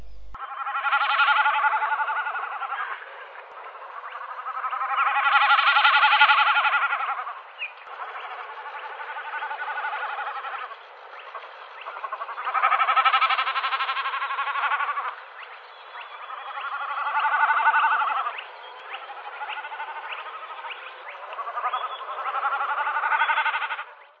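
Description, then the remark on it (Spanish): Common snipe drumming from the wings: a series of loud, tremulous, bleating hums, each lasting two to three seconds and rising and falling in waves, repeated steadily with no voices. “Vamos a poner una pequeña muestra de dos de las aves que producen el sonido con las alas, el saltarín y la agachadiza.”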